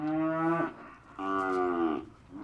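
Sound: cattle mooing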